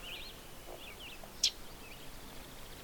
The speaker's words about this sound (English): I can see the leaves moving, but I can't see the bird. So that's the common yellowthroat's chip. It's likely there's a family around. He's probably being very defensive and warning the others.